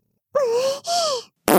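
Three close, fairly loud farts in quick succession: two drawn-out, buzzy, tonal blasts with a slight pitch wobble, then a short, airy, sputtering burst. No talking.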